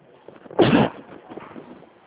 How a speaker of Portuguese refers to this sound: Perdão, acabei espirrando.